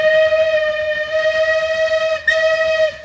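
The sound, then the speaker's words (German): A steam locomotive whistle blows one long, loud, steady shriek for about three seconds, breaking for an instant near the end before sounding again, with no voices over it. It is the small steam locomotive of the Toy Train to Darjeeling, India, climbing from the plain of West Bengal into the Himalaya mountains. “Diese kleine Dampflok, die sich aus der Ebene Westbengalens ins Bergmassiv schraubt.”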